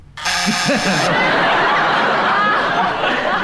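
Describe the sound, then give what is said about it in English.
A harsh, raspy game show buzzer, pressed by Clement Freud to challenge for hesitation, blares for about a second. It shares the moment with a burst of laughter and voices that keep rolling on after it cuts off. “Clement Freud, you buzz.”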